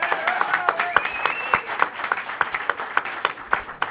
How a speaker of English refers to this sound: So we'll let you get back to business at hand, and let's have another round of applause from the people in the room to congratulate these coaches.